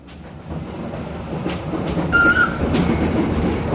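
A small red train on the Albula line rumbles past, heading north from the Engadin through the Albula valley. Its low rolling noise builds steadily, then a shrill, sustained high-pitched whistle cuts in and holds over the clatter for the last couple of seconds.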